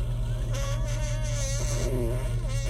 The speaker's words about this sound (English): This road is a big old fart sound right now. See, spooky farts for Halloween. I'm not really scared.